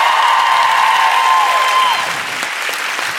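A crowd applauds a band loudly and steadily, the dense clapping joined by a high sustained whistle-like tone that fades out partway through as the applause carries on.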